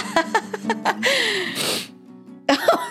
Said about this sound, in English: you really are sniffling.